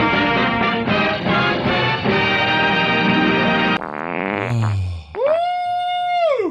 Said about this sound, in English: Ow. Oh, I farted.